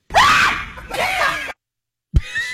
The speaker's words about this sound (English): I guess she yelled first and then punched him, huh? That's exactly what happened.